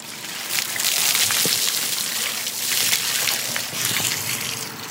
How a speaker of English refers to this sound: pours a bucket of cold water over my head.